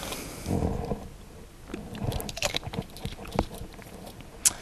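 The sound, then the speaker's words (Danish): Quiet sipping and swallowing of water, with soft mouth clicks and small wet gulps scattered over a few seconds, ending in a sharp little click. No one speaks. “Ja, jeg tager lige en tår vand imens.”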